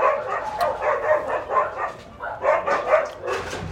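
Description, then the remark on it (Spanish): Several dogs bark repeatedly in overlapping bursts, a noisy cluster of yaps and woofs, with occasional higher yips mixed in. “No, pinches los perros. Pinches perros.”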